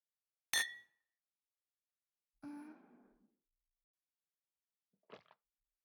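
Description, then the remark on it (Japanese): A bright clink of glasses touching in a Christmas night toast, ringing briefly, then a softer resonant glassy sound a couple seconds later and a short faint rustle near the end; no talking. “乾杯。”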